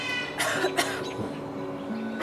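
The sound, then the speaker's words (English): A raven named Mischief imitates a human cough, giving two or three raspy, hacking bursts against a steady background hum, with no talking. “And sometimes he hears people who have a cold.”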